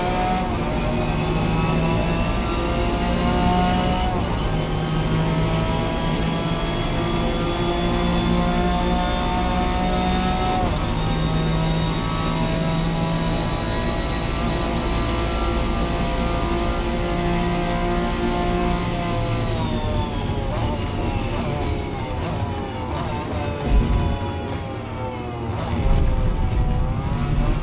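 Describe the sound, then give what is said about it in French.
A steady, droning video game car engine heard from the interior view, with a sustained harmonic hum that dips and shifts near the end as the car slows for speed bumps, plus rumbling tire and road noise underneath. “Mais vous entendez vraiment les roues quoi de la voiture à l'intérieur, comment c'est vraiment bien réparti sur le plan de la spatialisation au niveau des panoramiques.”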